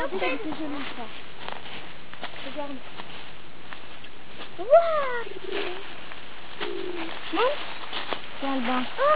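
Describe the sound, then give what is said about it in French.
Repeated soft, low cuckoo calls sound at intervals across the scene, with a sharper bird call in the middle and muffled voices talking in the background. “c'est coucou.”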